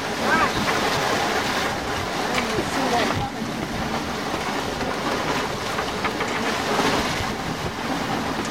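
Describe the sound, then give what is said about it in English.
Ocean waves roll steadily past a moving boat, a loud, continuous rushing wash with a low rumbling undertone and no break for the whole stretch. “Get a look, look at these waves rolling by.”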